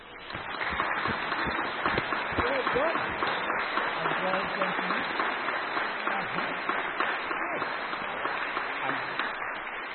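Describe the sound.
A crowd applauds with steady, dense clapping that carries on at an even level for about ten seconds, with some voices murmuring and calling out beneath it.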